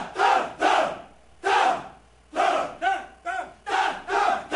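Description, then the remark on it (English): A Finnish male choir of screaming men, featured in the film Screaming Men shown at Sundance, shouts in unison, with eight or so loud, forceful bursts in a rough chanting rhythm and short gaps between them. No other voices or sounds accompany the shouts. “Screaming Men was the first film I saw at Sundance, and as the title implies, it's about a Finnish choir of screaming men.”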